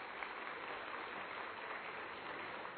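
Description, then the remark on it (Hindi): A crowd at a gathering in the Gyan Sarovar courtyard claps for themselves, steadily, in a dense, continuous wash of applause that holds an even loudness throughout, with no voices rising above it. “अपने लिए जोरदार ताली बजा दीजिएगा।”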